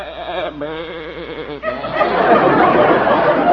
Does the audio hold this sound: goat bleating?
yes